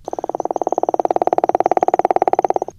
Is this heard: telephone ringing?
no